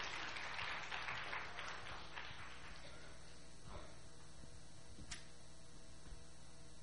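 Applause from an audience of many hands welcoming a visiting pastor at an evening church gathering, dense and steady for about three seconds, then thinning out and fading, leaving a few scattered taps and a quiet hum.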